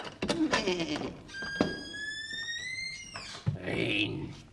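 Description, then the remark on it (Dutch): The small door of a little house springs open with a long, rising creak lasting a couple of seconds, bracketed by dull knocks, then a solid thud as it swings wide, with some background noise around it. “Nauwelijks was het deurtje opengesprongen of de wolf rende het huisje binnen, hapte links en rechts naar de geitjes en peuzelde net zo lang tot hij niet één geitje meer kon vinden.”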